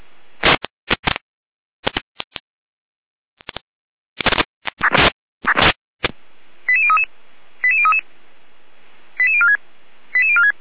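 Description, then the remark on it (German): Fire brigade alerting tones: a string of harsh, buzzy data bursts, then four evenly spaced groups of quick, stepped electronic beeps at a fairly high pitch, played loud over a radio channel with no talking. “Achtung, Alarmierung.”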